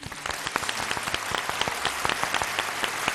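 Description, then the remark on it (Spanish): Steady applause on the Radio Marca show Paralelo 20, the applause of the day for a longtime painter called the 'abuelo arcoíris': many overlapping claps forming a dense, continuous patter at a moderate level throughout, with no voices. “También el aplauso el abuelo arcoíris.”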